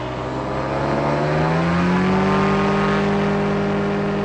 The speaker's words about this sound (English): Air traffic, two ultralights preparing to take off runway 25.